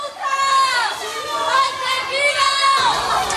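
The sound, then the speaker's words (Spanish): A crowd of raised, overlapping voices shouting angry insults at a confessed murderer as he is taken to the investigating court in Sueca, loud and sustained for the whole moment, with several strained, high-pitched yells cutting through the din. “Meterlo en la cárcel, desgraciado, hijo de tal, ha sido algo de palabras que le gritaban.”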